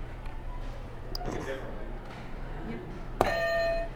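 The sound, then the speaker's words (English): Soft background murmur gives way to a sudden electronic tone near the end as a game buzzer is pressed, a steady sustained buzzer with bright harmonics that rings on loudly through the final moments. “Go ahead and hit one of these buzzers.”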